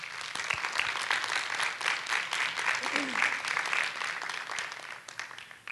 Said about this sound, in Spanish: Bueno, eso es más o menos las personas que nos acompañan. Les pido un aplauso para ellos, por favor.